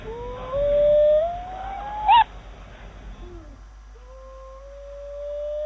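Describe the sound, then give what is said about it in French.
A dying dog whimpers and howls in pain in long, rising, pained whines, broken by a sharp yelp midway, then trails off into a thin, fainter whine. No speech. “Je les pose sur le chien qui agonise.”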